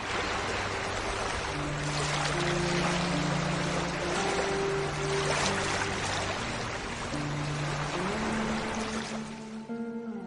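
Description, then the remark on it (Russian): A river motorboat heading north from Tomsk moves steadily through water, with a continuous rush of spray and churning under a low, droning hum that holds for about ten seconds before easing slightly at the end. “Летом они арендовали в Томске речной катер и поплыли на север.”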